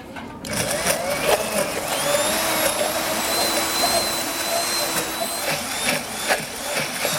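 An electric blender runs steadily for several seconds, a loud, continuous motor whine with a high-pitched tone over a gritty, churning hiss as a sauce with olive oil, vinegar and salt is mixed. No one speaks.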